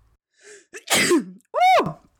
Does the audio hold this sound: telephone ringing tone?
no